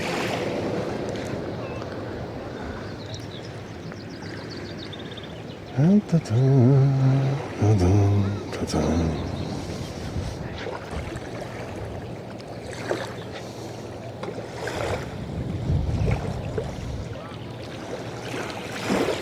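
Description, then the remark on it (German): Small waves, caused by the Fellowship, lap and slosh steadily against the hull of a boat, with a soft wash of water and wind, and a brief tonal voice-like sound rising midway. “Hört ihr das? Die Wellen, das hat die Fellowship verursacht. Sie hat Wellen geschlagen.”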